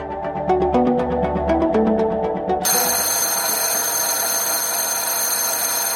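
A loud electric school bell rings. A few seconds of quick, rhythmic chiming tones give way to a harsh, continuous metallic clanging that carries on steadily with no voices.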